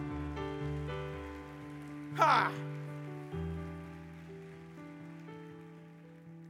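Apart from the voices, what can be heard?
audience applauding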